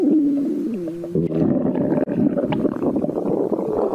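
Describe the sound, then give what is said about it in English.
A loud orca stomach rumble fills the whole stretch, starting with a gurgling tonal groan that bends in pitch, then breaking into a dense, bubbling churn that continues steadily to the end. “this stomach rumbling, it's making me a bit nervous.”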